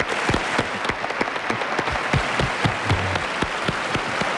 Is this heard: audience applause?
yes